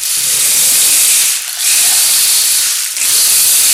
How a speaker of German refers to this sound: Erst tröpfelte es nur ein bisschen. Aber dann wurde es immer mehr. Immer mehr. Immer mehr. Bis es ein richtiger Sturzregen war.